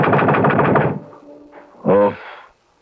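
A rapid, loud burst of hammering knocks on a door at night, about a second of fast pounding, followed after a short pause by a brief voiced call.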